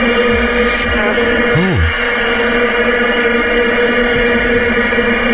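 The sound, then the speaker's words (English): A loud, unbroken vuvuzela drone played from a website that plays vuvuzela noise continuously: many horns blaring one steady buzzing mid-pitched note, with crowd noise underneath and a brief wavering tone early on. “There's actually a website which will just play the noise of the vuvuzela the whole time”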